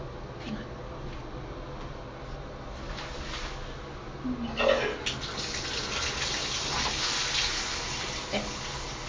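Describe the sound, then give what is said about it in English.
Steady running water from a shower being turned on in the morning, a broad hissing rush of spray, with a brief splashy surge midway and faint voice sounds underneath. “Okay, yeah, let me get you the shower ready.”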